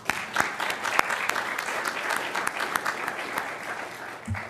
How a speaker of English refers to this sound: The most important group to thank is you, our residents and business people of the City of Columbia. Without your support and direction, none of this would be possible. So let's give yourselves a round of applause.